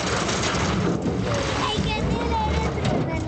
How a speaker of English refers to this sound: a rusty metal dinghy with an outboard motor is the only way to get into northern Iraq